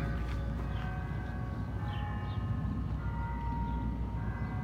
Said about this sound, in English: It's the distant sound of a church bell.